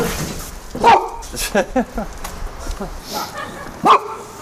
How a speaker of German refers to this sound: Trotz Wind, Kälte und Nieselregen. Neuerdings bellt sie sofort, wenn sie rauskommt. Ist ja ihr Reich.